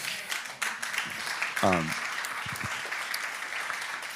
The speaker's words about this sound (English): It's a nice, sweet clap. It's like, yeah, that's good. I like it.